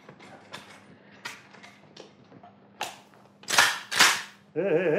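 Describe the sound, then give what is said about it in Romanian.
Light mechanical clicks and creaks as an old rifle, a bear-hunting carbine, is loaded, leading into two loud, sharp gunshot bursts in quick succession, followed by a wavering, warbling tone. “Uite, acolo un cui, o pușcă veche. Ia-o, încarc-o și fă-te că tragi.”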